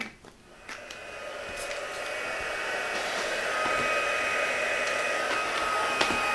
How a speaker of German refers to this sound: Gut, dann föhne ich dir mal deine Tütchen hier, wa?